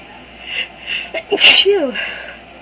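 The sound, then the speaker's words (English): A single loud sneeze set off by flowers: a short gasping intake, then a sharp explosive burst trailing off into a breathy voiced tail, with quiet before and after. “Sneeze like crazy.”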